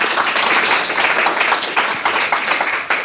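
Loud, sustained applause from an evening audience for author Maya Haderlap, a dense wash of many overlapping hand claps that stays steady for about three seconds with no talking.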